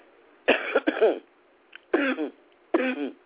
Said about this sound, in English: Oh, my God. Please excuse me. If sometimes you guys wonder why I've delayed some of the shows, it's because I'm not out the woods yet of this cough. I know this is crazy, but Mom and I, we're almost rid of this crazy, crazy cough.